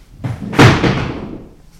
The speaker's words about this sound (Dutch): Ik zag hem gaan, dus ik schrok er niet van. Een kapstok viel.